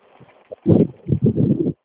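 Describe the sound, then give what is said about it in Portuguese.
Rumbling gusts of wind buffet the microphone in two loud bursts, the second longer and pulsing unevenly, after a quieter, fluttering stretch at the start. “Sai que vento? Tá gostoso, hein?”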